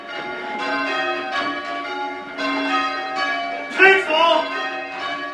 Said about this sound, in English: Calling out the changes at St. Nicholas Church, its ancient bells still rung by hand.